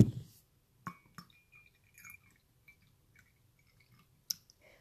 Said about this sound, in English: I'm actually going to pour some more of this Yunnan tea here.